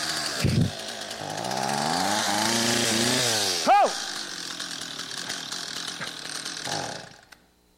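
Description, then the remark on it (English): A chainsaw sputters to life and revs up, its engine pitch rising and falling before settling into a loud, steady buzzing roar. A voice briefly exclaims over it midway. “He says, "Would you mind if I use the chainsaw?"”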